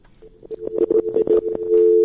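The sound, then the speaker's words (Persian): A guest's phone call drops into a steady electronic tone, first muddied by crackling, garbled bursts of line noise, then holding clean and continuous at the end, fairly loud. “متاسفانه چې د شینواري صاحب تلفن قطع شوی دی.”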